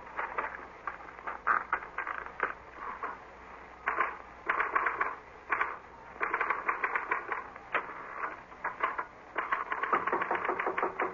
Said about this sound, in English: This is a note I want you to copy onto your typewriter.